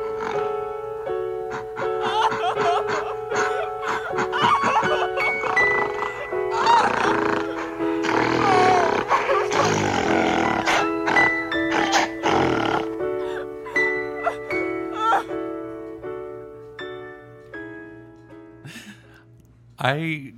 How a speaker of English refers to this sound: Your lesson in love is pig sex.